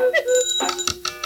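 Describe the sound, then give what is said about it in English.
Several clocks, including a cuckoo clock, a ship's clock, a French clock, a banjo clock and a Swiss clock, ring and chime at once, clear, bright tones layered over one another, with a few sharper strikes punctuating the jangle in quick succession, fairly loud. “A cuckoo clock. A ship's clock. French clock.”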